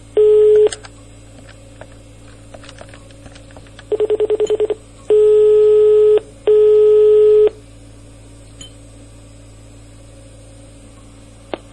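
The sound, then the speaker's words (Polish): A brief tone, then a quick burst of rapid dialing beeps, followed by two long, steady ringing tones on a phone line. The sounds are clear against quiet background hum, with no voices. “Zaraz wykonamy do niego telefonik i dowiemy się, dlaczego tak napastuje moją córeczkę.”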